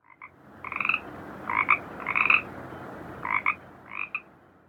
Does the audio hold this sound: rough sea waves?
no